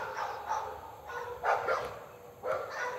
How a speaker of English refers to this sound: Cue the dogs. So plenty of dogs. No turkey. Where's the gobble?